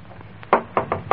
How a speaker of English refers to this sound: Really, old girl, there's no use banging that knocker. This is the old Wayne house, you know.